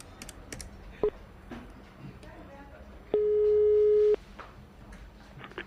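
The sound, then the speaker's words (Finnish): A mobile phone call's ringing tone sounds once as a call is placed directly to a cell phone, a steady, fairly loud electronic beep lasting about a second, preceded by a short blip and soft tapping like keypad presses. “Mä taidan soittaa siihen Penan kännykkään suoraan.”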